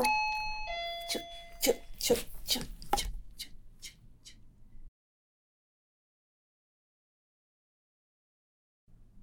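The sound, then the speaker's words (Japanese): A doorbell chimes with a quick two-tone ding-dong as a delivery of an ordered parasol arrives, followed by a run of sharp clattering knocks and a low background rumble that cuts off into silence. “めっちゃ焦った。ピンポン。日傘を頼んでたのが届きました。”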